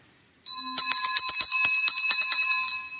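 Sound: victory bell ringing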